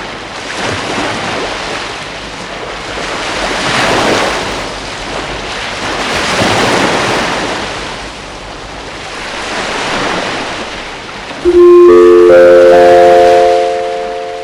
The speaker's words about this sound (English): Beti bezala egiten dugun ez irratsaio honetan, ohitura bihurtuta itsas bidaia hasi aurretik itsasoaren egoera errepasatzea, eta gaur ondoko itsasoa ipar mendebaldekoa da, eta olatuak metro eta erdikoak.